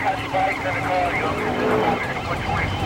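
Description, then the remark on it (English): A car roars along a highway at about 110 miles an hour, with steady, loud road and engine noise. Wavering siren-like tones and muffled voices ride on top throughout. “He rockets down the highway at dangerous speeds.”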